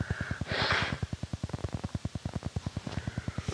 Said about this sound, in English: Pardon me while I blow my nose.